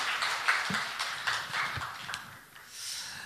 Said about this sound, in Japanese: ハレルヤ。イエス様に栄光を期して大きな拍手をあげましょう。ハレルヤ。